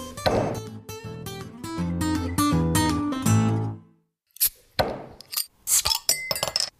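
Several glasses clink together in a toast in quick succession, each strike leaving a bright ringing tone. After a short pause, a few sharper, scattered clinks and clatters follow.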